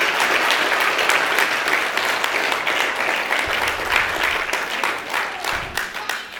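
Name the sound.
audience applause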